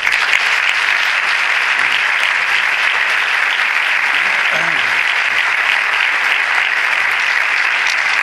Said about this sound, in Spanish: Así que os pido un fuerte aplauso para él.